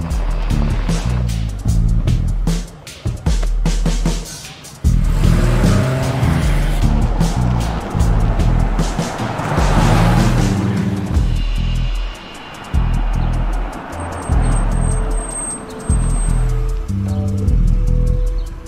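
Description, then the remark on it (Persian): A car engine roars loudly, revving in surges with brief drops, and tires squeal at moments as it drives hard; no voices are heard. “ببینم ماشین از این کوچولوتر نبود بگیری؟”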